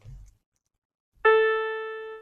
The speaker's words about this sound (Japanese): じゃあ、この音、これ鍵盤の音で、ですね。 これが、まあ、いわゆる真ん中のドとか言われるやつなんですけど、ドです。